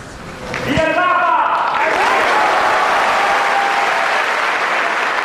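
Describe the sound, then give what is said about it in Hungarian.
Loud, sustained applause from a large crowd fills the Paul VI Hall in the Vatican at the end of the year's first papal general audience, swelling quickly after a brief voice at the start and holding steady as a dense, continuous roar of clapping. “És ezzel a nagy tapsviharral ér véget az idei év első audienciája a 6. Pál teremben, a Vatikánban.”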